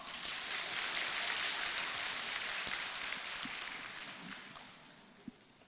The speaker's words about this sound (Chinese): 鼓掌。